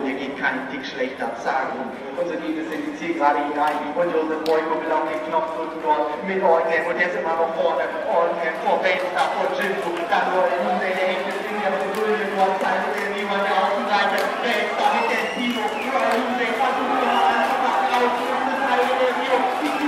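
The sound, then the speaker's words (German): Racehorses gallop past for the second time in a race, a rapid drumming of hooves that builds and carries on under a murmuring crowd and voices talking throughout. “dass die Pferde hier zum zweiten Mal vorbeikommen”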